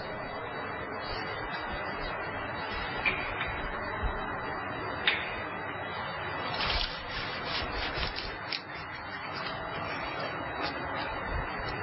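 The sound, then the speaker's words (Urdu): Wet hands rub and smear water over the feet up to mid-shin during wudu ablution: a continuous soft swishing texture with a few brief louder slaps and splashy bursts, no talking over it. “یہ پاؤں کو میں تر کر رہا ہوں، مستحب ہے کہ پانی چپڑ رہا ہوں اس پر، اور پاؤں تو ٹخنوں تک دھونے ہوتے ہیں، لیکن آدھی پنڈلی تک میں تر کروں گا، اس لیے کہ آدھی پنڈلی تک دھونا مستحب ہے.”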